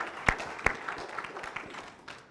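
An audience claps together in a steady patter of applause, with a couple of sharp, louder claps close by standing out at the start before the clapping tapers off.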